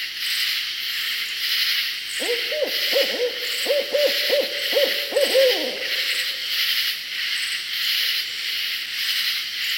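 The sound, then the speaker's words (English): A barred owl gives a rapid series of loud, wavering hoots for a few seconds, layered over a dense, continuous buzzing chorus of many katydids calling in unison in a southern swamp at night throughout. “Listen to this raucous chorus calling loudly in a southern swamp, interrupted only by the hoots of a barred owl.”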